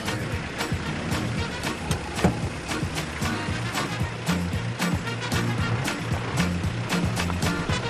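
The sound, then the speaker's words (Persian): A vehicle engine, just started, rumbles steadily throughout as the vehicle speeds off, fairly loud, with a clatter of sharp knocks and rattles over a rushing, noisy background. “این چرا انقدر با سرعت میاد؟ داره میره. این ترمزش کجاست؟”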